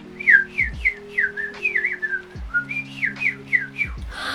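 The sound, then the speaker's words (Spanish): Birds chirp and whistle in a quick, steady series of bright, short notes, about a dozen in a row, over a low, sustained hum in the background. “Entonces, se acercaron los pájaros y le contaron lo ocurrido.”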